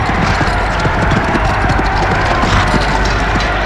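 Brisk clip-clop of two white horses' hooves pulling Agamemnon's chariot, loud, beating in a fast steady rhythm over a continuous low rumble of wheels, with no voices.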